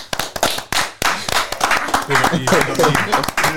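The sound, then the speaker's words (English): A short round of applause: sharp, irregular hand claps ring out, loud and bright, with voices joining in over the clapping during the second half. “Before we get on the way, though, I think let's give a round of applause for over a year into the pod, man.”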